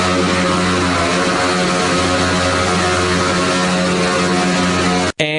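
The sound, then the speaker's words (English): Loud, continuous roar of two motorcycle engines held at high revs while doing burnouts at an indoor swimming pool, a steady droning buzz that fills the whole stretch before cutting out briefly near the end; no one speaks. “We got two more motorcycles. They're doing burnouts.”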